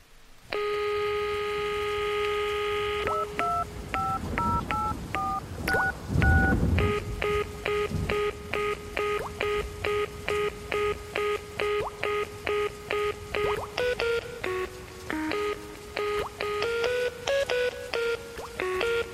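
A phone line tone holds for a few seconds, then a quick run of touch-tone dial beeps sounds after a dull thump, followed by a long, steady series of short electronic tones, clear, as a phone call comes in.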